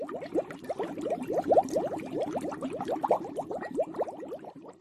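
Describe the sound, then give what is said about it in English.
A dense, continuous bubbling and gurgling of a stirred cauldron as new ingredients are thrown in, like a thick liquid boiling in a pot, with rapid irregular pops over a low simmering rumble and faint hiss, steady. “As the Sea Witch threw in new ingredients, the cauldron bubbled and hissed.”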